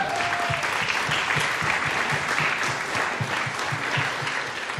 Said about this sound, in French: Vous pouvez venir. On peut les applaudir, les défiler.